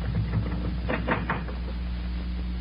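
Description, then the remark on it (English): A door being opened: a quick cluster of wooden clunks and a latch rattle in the middle, over a steady low hum, with no one speaking. “Just open that door.”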